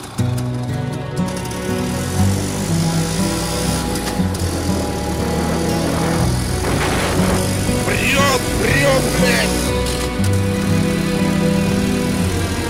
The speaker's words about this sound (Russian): Мотоцикл прет. Это вам, блядь, не шухры-мухры. Завидуйте.